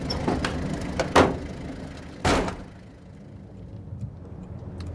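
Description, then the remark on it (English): A car door opens and shuts with two solid thunks about a second apart, while the engine of the car, parked at a bus stop, idles underneath in a low, steady rumble. No one speaks. “So, do you want a lift or are you waiting till I get done for parking at a bus stop?”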